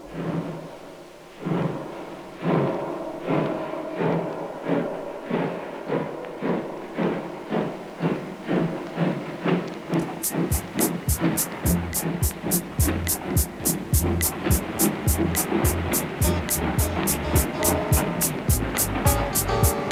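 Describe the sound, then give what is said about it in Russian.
A departing express train, its heavy rhythmic rumble and regular clacking pulses quickening and growing louder and brighter as it picks up speed, with a steady roar beneath. “abfahrender D-Zug.”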